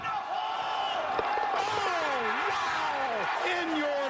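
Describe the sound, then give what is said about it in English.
A big stadium crowd at a footy match roars steadily throughout as a player lines up a kick, a loud, dense wash of voices with rising and falling yells and whoops sweeping over the top of the noise. “Listen to the crowd. They're going to go nuts when he hits this thing.”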